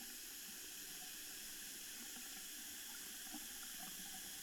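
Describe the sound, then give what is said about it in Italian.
Water pours steadily from a tap left open in the women's bathroom on the mezzanine of staircase G, a continuous bright hiss with faint splashing against a basin, unchanging for the whole stretch, with no voices. “Oh, è solo un rubinetto aperto, pensa.”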